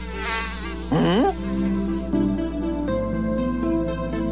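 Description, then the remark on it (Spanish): A high, thin mosquito whine buzzes throughout, its pitch swooping up and down as the insect moves near the ear, with no voices present. “¿y los mosquitos? No hay nada peor que sentirse ese zumbido molesto en el oído y fastidia más si quien te acompaña no lo sufre.”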